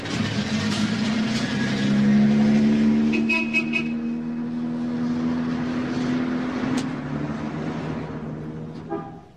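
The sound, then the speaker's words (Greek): A large bus engine rumbles steadily with a droning, slowly shifting hum, joined partway through by brief mechanical clanks and hisses before settling again. “Λεωφορείο.”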